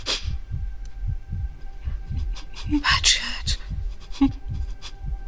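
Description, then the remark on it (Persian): A person's rapid heartbeat, speeding up, thumps steadily and deep throughout, about two beats per second, with faint breathy rustles and hissing sounds rising over it midway. “شدت گرفتن ضربان قلبتو میشنوم”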